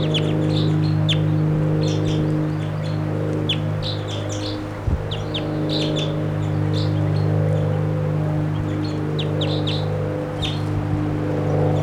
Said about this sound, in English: Bird here. Oh, bird. You close. Wild bird. I don't see the bird.